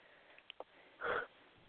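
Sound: yawning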